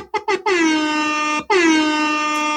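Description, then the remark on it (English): A hip-hop air horn sound effect blares loudly: two quick short blasts, then a long sustained honk, a brief break, and another long blast, with no talking. “Hip-hop air horns to you. Air horns.”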